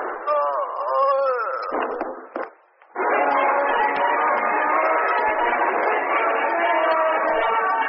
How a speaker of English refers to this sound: Oh, heard a shot in there.